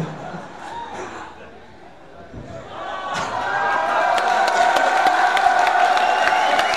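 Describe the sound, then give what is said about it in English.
A crowd murmurs, then swells into cheering and scattered applause for a man after a few seconds, with sharp individual claps popping over a steady roar of voices that stays loud to the end. “Give this man an applause.”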